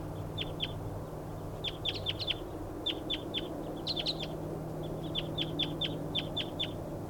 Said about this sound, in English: Still calling the wild birds now. And another bird is coming in. It's 6:47 now. More wild birds coming in.